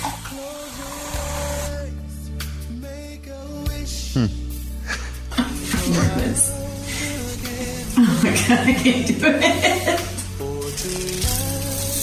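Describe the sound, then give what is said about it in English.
An electric razor shaving a man's facial stubble hums with a steady, low buzz throughout, its tone shifting and turning rougher and grittier partway through as it works, with occasional voices in the background. “That's that noise that's on. Yeah, that's the shaving.”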